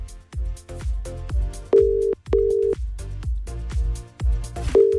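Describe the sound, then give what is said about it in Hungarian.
A steady telephone ringback tone sounds in three short bursts over upbeat background music with a pounding drum beat, as a call is placed live on air to a friend's phone and goes unanswered. No one speaks. “Reméljük, hogy felveszi a telefont.”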